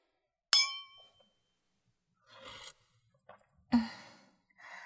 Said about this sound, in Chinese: 来，干杯！